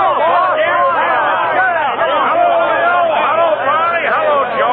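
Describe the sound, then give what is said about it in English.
A crowd of men, the henchmen of Mr. James Cork greeting him as he steps off the train in Larivelle, cheers loudly and continuously, a dense roar of many overlapping shouting voices filling the whole stretch with no pause. “As he waves his big hand to the crowd, he's greeted by a loud cheer from his henchmen.”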